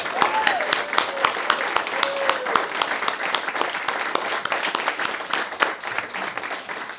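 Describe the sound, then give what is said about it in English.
Sustained audience applause for the songwriters at a live music event, a dense wash of many hands clapping steadily at an even loudness for several seconds, with a few faint whistles rising above it near the start. “So how about a round of applause for all of our songwriters?”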